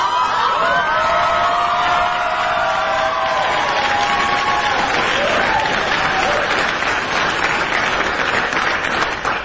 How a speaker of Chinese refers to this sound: 哎呀，鼓掌，太好了。